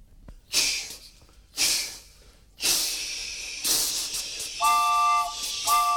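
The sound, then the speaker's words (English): A voice imitates a steam train to Pasadena, California: a few slow, breathy chuffs build into a continuous hissing rush, then a held, whistle-like tone sounds twice near the end, with no speech. “Now, you get to Pasadena on a rather lovely mime train.”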